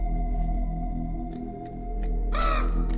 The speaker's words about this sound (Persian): دو تا کلاغ روی سقف اتاق زیر شیروانی.